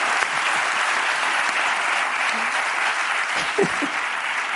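Steady, dense applause from an audience, a continuous wash of many hands clapping at even loudness for several seconds, with a faint voice briefly audible underneath.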